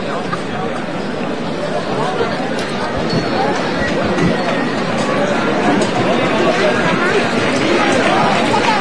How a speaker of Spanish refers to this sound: 5:31 de la tarde. La Hermandad Sacramental de la Cena ya está colocada bajo el dintel de esta parroquia de los cuatro evangelistas. Bullicio, gentío. Se vuelve a revivir un nuevo Lunes Santo aquí en San Marcos.